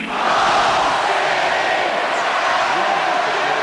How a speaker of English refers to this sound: The crowd there shouting Goldstein because one of the enemies of the state is named Emmanuel Goldstein.